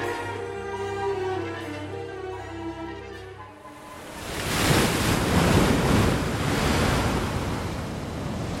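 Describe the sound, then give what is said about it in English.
Ocean waves break on shore in a loud, hissing wash of surf that swells and rolls on after a few seconds of low, sustained tones fade out, from a documentary Enrique Sala helped put together for the government of Ecuador. “These are the sounds of waves from a documentary that Enrique Sala helped put together for the government of Ecuador.”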